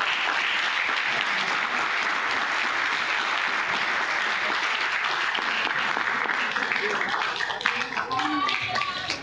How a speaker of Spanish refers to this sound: Gracias por todas estas respuestas muy enriquecedoras. Queremos darle un aplauso.